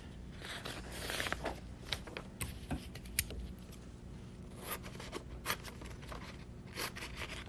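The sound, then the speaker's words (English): Crackly ripping of cellophane tape being pulled off a roll in a kitchen, in several quick raspy bursts with short pauses between, ending in sharp little tearing snaps, as links of a paper chain are taped together. No one speaks. “Put that through like that. Tape that together.”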